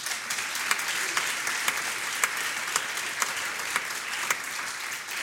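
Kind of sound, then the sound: crowd, audience applauding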